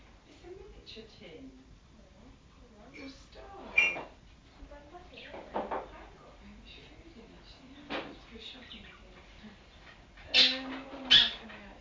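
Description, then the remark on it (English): A small dog in a room makes a few short, high whimpers and yips, the loudest two coming near the end, over a background of low, indistinct voices. “Well, I'm going to squash this little doggy in a minute if he's not careful.”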